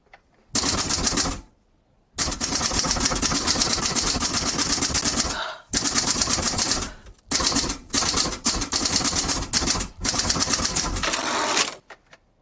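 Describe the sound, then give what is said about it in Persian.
Rapid, continuous typewriter clatter in several long bursts separated by brief pauses, loud, with dense mechanical key strikes and no voices, as someone types up a meeting report. “دارم گزارش جلسه رو تایپ میکنم.”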